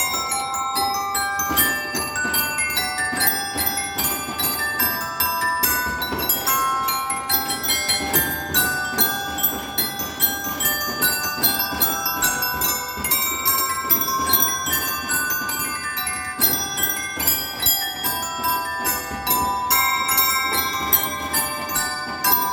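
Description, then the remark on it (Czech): A bell piano, a keyboard instrument built like a xylophone with metal plates, plays a continuous melody of ringing, overlapping chime tones that sustain and shimmer, filling a church with sound, fairly loud, with no talking. “Ten klavír je udělaný něco jako xylofon, takové destičky kovové, ty taky vydávají různý zvuk.”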